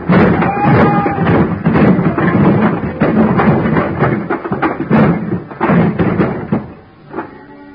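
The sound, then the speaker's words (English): A high pile of wooden boxes ready for shipping crashes down after a heavy, empty dolly is sent into the bottom box, in a long, loud tumble of thuds, bangs and clattering knocks that keeps going for several seconds before trailing off into a last few scattered thumps. “I grabbed a heavy, empty dolly, gave it a flying start, and sent it crashing into the bottom box of the pile.”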